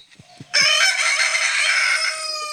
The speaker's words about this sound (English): This is my alarm set for Friday morning. Let's see if this works. Yeah, a rooster. You like that? That is a Salvadoran rooster.